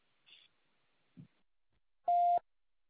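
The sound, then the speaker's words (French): A single loud, steady electronic beep at a mid pitch, lasting about a third of a second: the answering machine signal after a French voicemail greeting asking the caller to leave a message. It is preceded by a couple of faint, brief clicks and is otherwise quiet. “Merci de laisser un message après le signal sonore.”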